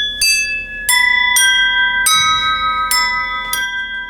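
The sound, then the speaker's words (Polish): Fine crystal glass (noble crystal, not ordinary soda glass) rings out under six light strikes at uneven intervals, each adding bright, high, pure tones that linger and overlap in a shimmering sustained chime. No voices are present. “To szkło. Dokładniej szlachetne szkło kryształowe.”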